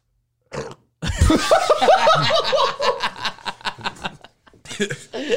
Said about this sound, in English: That sounded like you burped through a mile of bubbles.